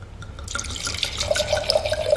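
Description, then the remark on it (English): Rosé wine, Tenuta and Fossa, an old-vine rosé from Liguria, pours into a glass. It starts after a brief quiet moment with a steady splashing gurgle whose pitch climbs as the glass fills. No one speaks. “Can I pour you another glass of wine?”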